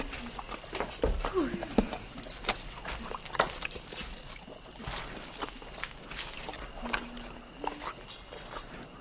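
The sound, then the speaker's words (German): Horse hooves clip-clop at an uneven, unhurried pace on hard ground, with scattered clacks and scuffs and a faint voice murmuring now and then. “Okay, ich versorge das Pferd.”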